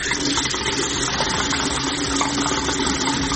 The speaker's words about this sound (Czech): Uzimam čašu, puštam česmu i sipam vodu.